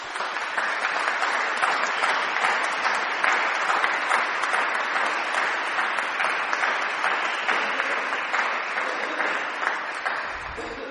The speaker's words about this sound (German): Und ich bitte euch alle, für die vom Lichtblick zu klatschen hier heute jetzt.